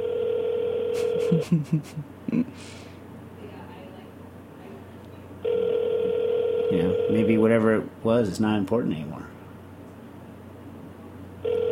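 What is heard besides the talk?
telephone ringing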